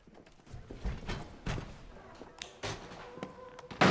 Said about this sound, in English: The president takes a cigarette out of his jacket pocket and looks a little surprised as the doors are closed around him.